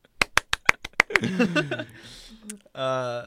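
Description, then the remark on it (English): A quick run of about seven sharp, evenly spaced hand claps, followed by voices talking and a sustained vocal tone at the end. “Round of applause.”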